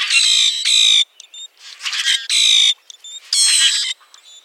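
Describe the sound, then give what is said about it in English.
Common grackle calls: a loud run of harsh, raspy, buzzing squawks in repeated bursts, broken by short thin whistled notes, with no one talking. “You can hear the roaring calls of common grackles in the eastern U.S. and Canada.”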